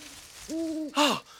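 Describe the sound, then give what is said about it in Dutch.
An owl hoots twice, a steady, sustained hoo followed quickly by a shorter, breathier one that dips in pitch at the end. No one speaks. “Oh, een uil.”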